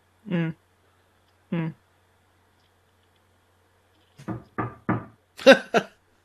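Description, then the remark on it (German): Two separate dull taps, then after a pause a quick run of five knocks on wood, fairly loud, with the last couple sounding sharper and brighter. “Nein, du musst schon auf Holz klopfen.”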